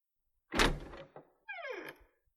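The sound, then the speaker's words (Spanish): A heavy wooden door thuds and rattles as it's unlatched for a visitor who knocked, then swings open with a short, descending creak of the hinges before settling with a soft knock. No voices. “Hija, tocan la puerta. Sí, ya voy, mamá.”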